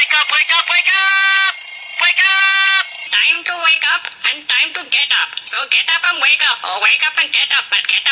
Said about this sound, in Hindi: लेकिन आज morning number one पे हमें पता चली आप सब लोगों की अलार्म टोन्स। मैंने मॉर्निंग में उठने के लिए ये वाली अलार्म टोन रखी है।